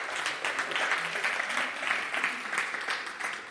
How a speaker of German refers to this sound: Ja, da darf man klatschen für den Herrn. Halleluja.